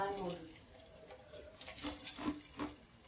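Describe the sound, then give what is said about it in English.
Water is poured in a quiet, uneven stream, with soft splashing and a few brief gurgling bursts over a few seconds. “Getting water.”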